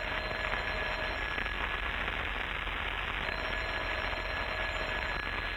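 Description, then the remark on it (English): A telephone bell rings continuously and loudly, a harsh, rattling metallic jangle that keeps going for several seconds with a slight break partway through, and no one speaks. “Rochester, why don't you answer the phone?”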